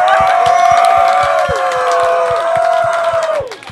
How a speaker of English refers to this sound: I really want a loud round of applause. Introducing Grand Architect!